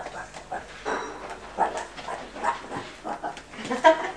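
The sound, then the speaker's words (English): A person pretends to be a dog, giving a string of short, yappy woofs and whimpery yips in quick succession, fairly loud. “What do you think I'm pretending to be? A frog. No. A dog.”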